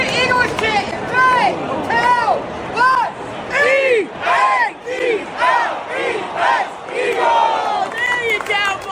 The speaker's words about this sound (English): So he called you down and he actually did get the crowd going better than you did. So here's what that sounded like.